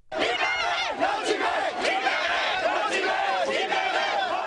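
A large crowd of protesters in Paris shouts and chants "Free Tibet" loudly and continuously while blocking the Olympic torch procession in the morning, many voices overlapping in a dense, steady roar with rising and falling yells throughout.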